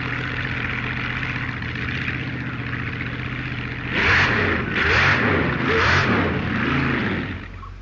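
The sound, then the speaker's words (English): A Mark II Wedge drag racing car engine at Blackpool idles with a steady, rough drone, then revs hard several times in quick succession, each loud burst rising sharply in pitch before dropping back. “Now he tries the Mark II Wedge again at Blackpool.”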